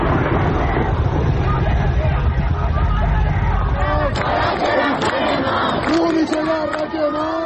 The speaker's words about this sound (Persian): در این ویدئو که از اطراف دانشگاه کردستان در سنندج ارسال شده، صدای تیراندازی و درگیری با دانشجویان به گوش می‌رسد.